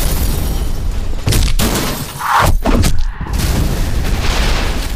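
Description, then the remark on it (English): Heavy impact sound effects from the Sound Ideas Impact Effects CD: loud, heavy impacts pound in quick succession, deep booming thuds and sharp cracking hits layered over a constant low rumble, with a brief bright crash in the middle and no talking. “when you want to hit them with your best shot, you need high adrenaline, heavy duty sound effects. You need impact effects from Sound Ideas.”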